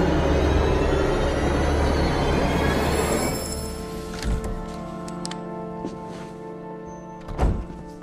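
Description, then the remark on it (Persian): A subway train rumbles loudly along, then the roar eases into a steady electric hum as it slows nearly at a station, with a couple of heavy clunks near the end. “اولین بار سوار مترو میشی.”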